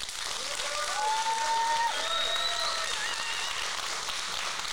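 Sustained audience applause as the audience votes by the loudness of their clapping to hear a story, a dense steady wash of many hands clapping at even loudness for several seconds, with a few faint whistles or cheers rising above it.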